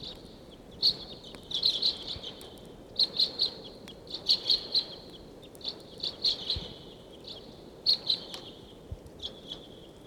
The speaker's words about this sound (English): I do not see the wild flock, but they're in the area. Birds, 150. That's 749 calling loudly there. It sounds like the birds are coming down the gulch.